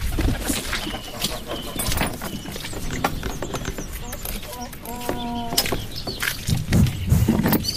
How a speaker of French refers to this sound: ces chants d'oiseaux ne s'échappent pas du studio 1 de RFI, mais plutôt du teaser de la chaîne du cinéma du réel